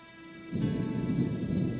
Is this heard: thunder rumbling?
yes